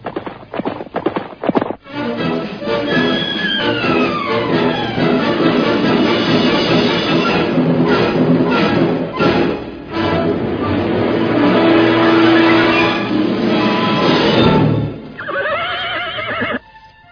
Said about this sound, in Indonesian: Pada saat itulah terdengar derap dua ekor kuda semakin lama semakin dekat.